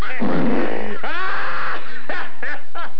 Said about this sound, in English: Fuck, I hope you fart till your asshole falls out.